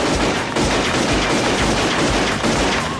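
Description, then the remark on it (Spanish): A loud, dense volley of gunfire from a .38, shot in San Vicente, shots following one another rapidly over a constant roar, with a few sharper cracks standing out. Harsh, with no voices. “Madonna nos demuestra su destreza con un 38.”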